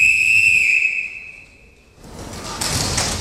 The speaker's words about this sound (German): Dazu gehört auch eine Trillerpfeife. Ein Pfiff markiert nämlich den Anfang und das Ende sogenannter Mini-Interviews, denen sich die Bewerber unterziehen müssen.